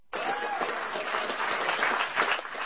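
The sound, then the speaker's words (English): An audience breaks into applause during a speech by Senator Warren, a dense, steady wash of many hands clapping that starts abruptly and holds at a fairly even loudness throughout. “Yeah, clap, damn it. That's your clap line.”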